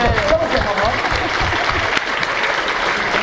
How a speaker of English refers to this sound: Peter Capaldi. Peter Capaldi is, of course, the right answer. A round of applause.